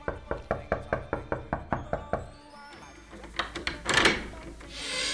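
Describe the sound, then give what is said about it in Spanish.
A steady series of about ten sharp, loud knocks as a man soiled with grease knocks on a house door, followed by a few quicker raps and some muffled thuds and rustling. “Poco después, un hombre sucio de grasa llamó a la puerta.”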